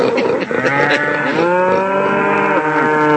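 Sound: cows mooing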